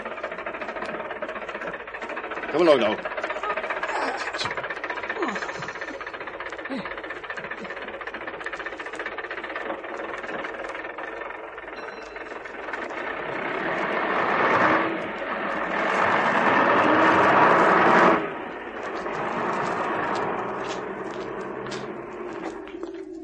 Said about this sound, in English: Sir, the bus. It's coming, sir.